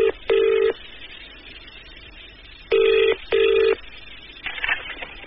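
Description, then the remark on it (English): A telephone ringing tone heard over the line as John Gummer's number is called, steady buzzing bursts in a double-ring rhythm with pauses between, followed by a brief clatter as the call connects. No one speaks. “And they gave me John Gummer's phone number.”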